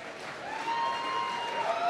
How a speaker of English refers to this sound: It's a funny thing to end a set on such a low-key song. And I think the sporadic applause from the 1,200 people only reflects the sort of pensive mood.